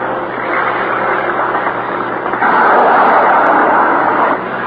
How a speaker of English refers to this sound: There go two more planes down. The sound of those motors is too loud for you to hear very much the sound of those rockets. There goes another plane down. Let's see if we can hear it.